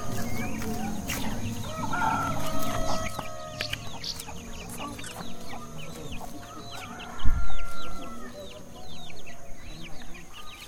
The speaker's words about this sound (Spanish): Niñas y niños, vamos a escuchar unos pollitos. Los pollitos se cuidan dándole masa, dándole agua y maíz.